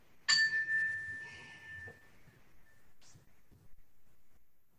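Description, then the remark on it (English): A single meditation chime is struck once to mark a minute of silent meditation, ringing out with a clear bright tone that slowly fades over a couple of seconds against a soft background murmur. “It'll be begin and end with the sound of a chime.”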